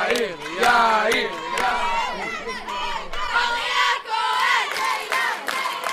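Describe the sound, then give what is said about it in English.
At the 2016 International Youth Bible Competition, a crowd of family members and classmates cheers and shouts wildly for 12 teenagers on stage, many overlapping voices rising and falling in loud, excited yells with sharp whoops breaking through the steady roar. “The crowd is going wild.”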